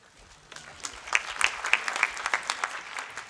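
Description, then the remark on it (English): Audience applause at a conference following the end of a delegate's presentation builds after a quiet start, a dense patter of many hands clapping with sharp bright claps standing out, sustained at moderate loudness for about three seconds. “Area and conference committee, the yellow caution light comes on after 90 seconds, and the red light ends the presentation followed by loving applause.”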